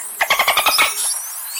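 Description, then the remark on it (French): Dolphin vocalizations: a rapid series of about eight sharp clicks or pulsed squeaks in the first second, followed by thin high-pitched whistles trailing off, with no speech. “vous écoutez la méthode scientifique et quelques sons de dauphins qu'on pourra commenter tout à l'heure parce que vous allez voir que le dauphin produit plusieurs types de sons et réussit à communiquer.”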